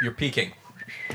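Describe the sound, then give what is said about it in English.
A person whistles short, bright chirping notes imitating a bird as a sound effect, a quick burst of tones with some voiced sounds mixed in. “So I'll have to get some birds chirping.”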